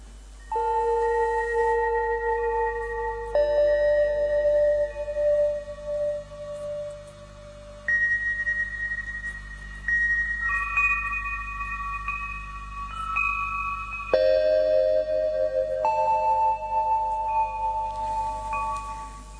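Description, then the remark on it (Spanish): Opening chimes ring out in a slow sequence of sustained, bell-like tones, each new note arriving every few seconds and overlapping the last. The tones are steady and clear, with no voices. “A este lado de la tumba da sus campanadas de inicio.”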